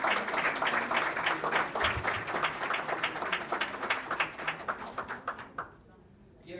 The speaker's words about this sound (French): Je veux remercier les interprètes qui ont fait du bon travail aujourd'hui. Un applaudissement pour les interprètes.